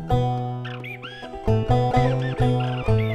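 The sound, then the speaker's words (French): A common moorhen gives a series of loud, abrupt croaking calls, about four in quick succession, over steady sustained tones in the background. “Dans mon entonnoir, pas une goutte d'eau, mais la mélodie d'une poule d'eau.”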